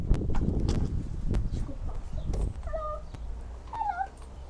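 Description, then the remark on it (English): A cat gives two short meows, one after the other near the end, over a steady outdoor background with some earlier rustling and clicks. “Hello, pussycat. What are you doing here?”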